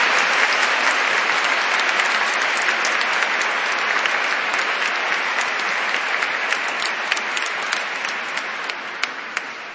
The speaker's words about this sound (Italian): Beh, senz'altro l'accoglienza e il benvenuto cordiale dentro la comunità e la gioia di accoglierli così, possiamo esprimere anche con un applauso e dire il nostro grazie a loro.